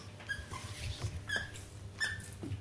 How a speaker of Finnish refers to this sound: Se tykkää näistä vinkuleluista. Se rakastaa tätä vinguttamista. Mikä on joskus vähän ärsyttävää.